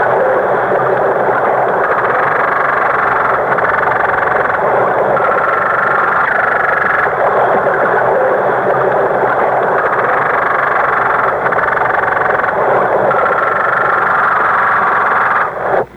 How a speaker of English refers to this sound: Who said riveters? Not right. Those were fish, the croaker, or the hardhead variety, you know.